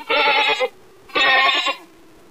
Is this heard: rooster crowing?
no